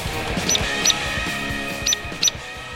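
A hairy woodpecker gives sharp, loud, high-pitched peek calls, four clipped notes in two loose pairs, standing out over a steady low background hum.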